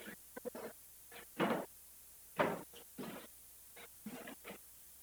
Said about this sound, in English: why don't you pull the chair over here so you can see the screen?